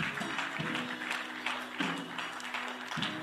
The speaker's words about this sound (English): Now, would you clap your hands and give God a praise this morning? Hallelujah!